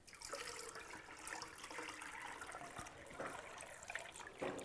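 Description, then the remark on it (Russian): Flour mixed into boiled, cooled sugar water being strained through a sieve so no lumps remain: a steady trickle of liquid pattering through mesh, with small splashy bursts and no one speaking. “Потом мы это процеживаем. Вот у нас вода уже с сахаром.”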